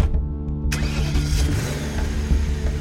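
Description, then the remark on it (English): A car engine rumbles low, then catches and revs up with a louder burst, settling into a steady running drone as the car drives off into the night. Fairly loud, with no voices. “got into the car and drove off into the night.”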